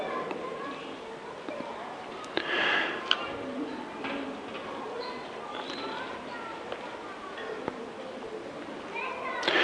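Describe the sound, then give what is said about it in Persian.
Children chatter and squeal in the background during a religious talk about the Quran, their voices indistinct and continuous, with occasional sharp clicks and knocks scattered across the scene. “این بچه ها که صدا میکنن من تمرکزم رو از دست میدم، یعنی دوباره باید برگردم از نقطه اول شروع کنم.”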